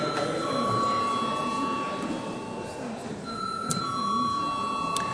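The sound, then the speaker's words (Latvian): The session bell of the Saeima, the Latvian parliament, rings before a vote as a steady, sustained electronic tone lasting several seconds, with a shift in pitch midway, over a low murmur of voices and shuffling in the chamber. “Lūdzu zvanu.”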